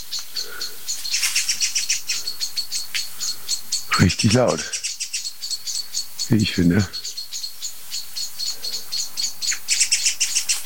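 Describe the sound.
Several songbirds, including blackbirds and song thrushes, keep up a dense, agitated chatter of repeated sharp scolding alarm calls throughout, flicking tails and wings, loud, while a person speaks briefly twice over them.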